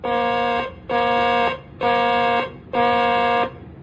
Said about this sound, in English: Ready on the warning alarm. Testing flight deck warning alarm. Testing flight deck warning alarm. This is a test.